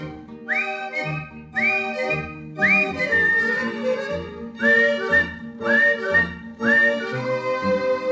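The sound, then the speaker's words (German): Six short whistled phrases, each swooping upward and then holding a bright tone, repeat in a steady pattern over a full instrumental accompaniment. The whistling is clear and fairly loud. “Ja, so pfeifen gern die Eltern, Herrn, zeigt am Himmel sich der erste Stern.”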